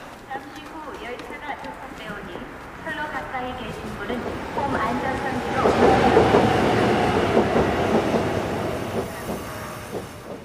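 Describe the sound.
A subway train rumbles through Sadang Station, growing louder midway as wheels screech and clatter on the rails, with indistinct voices mixed into the steady roar.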